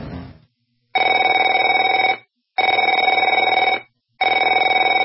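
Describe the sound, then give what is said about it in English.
A telephone rings in three loud, steady bursts of about a second and a half each, separated by short silences, with a bright electronic trill; no one speaks. “Afraid to answer it?”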